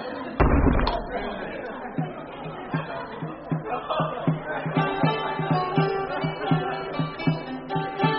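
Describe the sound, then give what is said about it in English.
A heavy hall door slams shut once with a deep, booming thud, then voices murmur over a steady, pulsing musical background. “Let the door of hall be shut, nor any man nor woman enter.”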